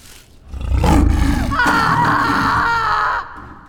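A loud, rough lion roar rises from a deep rumble into a sustained, strained bellow lasting about three seconds, powerful, with no talking.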